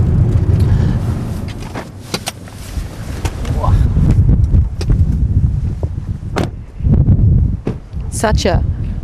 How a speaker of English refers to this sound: Such a cold, windy day.